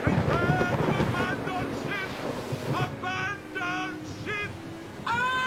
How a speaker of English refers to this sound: What now ensues in this fell storm shall for itself perform. It were best witnessed, not told.